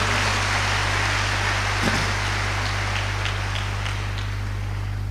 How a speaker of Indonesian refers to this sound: Tepuk tangan yang meriah padaku.